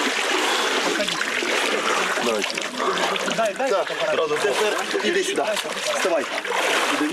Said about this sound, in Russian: Именно здесь находится место, на котором произошло крещение Господне в водах Иордана. После молебна паломники окунаются в воды священной реки.